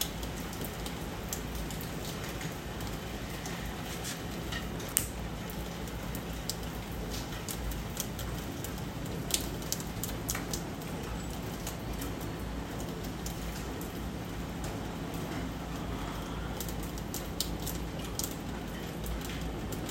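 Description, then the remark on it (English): Heavy rain falls steadily, a dense continuous hiss with scattered sharper drop impacts across the whole stretch, no voices, at a moderate, even level. “Ooh, the rain is getting stronger.”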